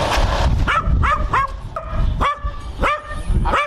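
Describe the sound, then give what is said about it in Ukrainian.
Several dogs bark in Petrovna in a rapid, overlapping series of sharp yaps and barks, loud, continuing throughout with no talking. “Так, да, я ж чую, собаки загавкали в Петровні.”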